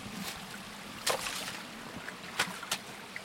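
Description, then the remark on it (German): Steady rushing of a flowing forest stream, broken by three brief, sharp sloshing impacts as someone steps onto stones in the water, roughly a second apart. “Da, wo Steine sind, kann man drauf treten, da ist fest, da ist immer fest.”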